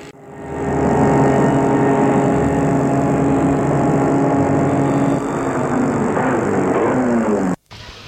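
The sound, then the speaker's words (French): A car engine runs at a steady hum for several seconds as the car is parked in a garage, its pitch shifting slightly near the end, then cuts off abruptly. No one speaks. “Arrivé chez ses parents, il garde la voiture dans le garage et entre chez lui.”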